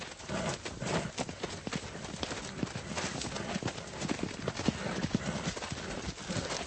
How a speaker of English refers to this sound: get the horse.